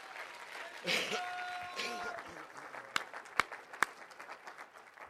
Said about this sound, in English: Amen. Somebody shout amen. Amen. Amen. Let's give God a good hand clap of praise for that.